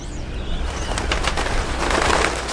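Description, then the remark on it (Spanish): A flock of migrating wild birds takes off, many wings flapping in quick, overlapping bursts that grow busier and louder, with a few faint coos and chirps over a steady outdoor hum. “Creo que el Principito aprovechó la migración de una bandada de pájaros silvestres para su evasión.”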